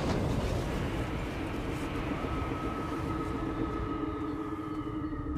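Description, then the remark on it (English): A loud engine roar rumbles steadily as a shuttle touches down nearby on a landing pad, kicking up roiling dust, with thick low rumble and a faint whining tone running through it for the whole stretch. “It blinks its eyes against the roiling dust as a shuttle touches down nearby.”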